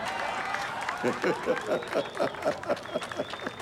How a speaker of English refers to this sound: I got an applause break. That's what I'm fucking talking about.